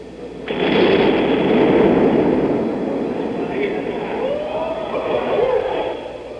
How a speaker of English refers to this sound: Federal authorities had been warned that the bomb was powerful and decided to detonate it in the street rather than take it out of the area. Four blocks were cordoned off, and two small blasts were used to ignite the bomb. Finally, it exploded.